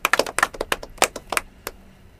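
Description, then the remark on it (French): A short burst of scattered hand claps from a small group applauding a correct quiz answer, quick and irregular at first, then thinning out to a few isolated claps before stopping. No one speaks. “On applaudit.”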